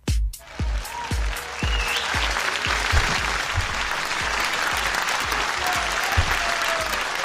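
An audience applauds steadily for several seconds, a dense wash of many hands clapping at a fairly loud, even level, with some lower thumps running under the clapping.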